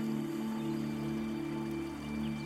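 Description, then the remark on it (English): A river flows somewhere in the distance in a forest, a soft, continuous rushing wash with no breaks, layered over a low, steady sustained hum. “You now hear a river in the distance, and you're attracted by the sound, so you walk towards it.”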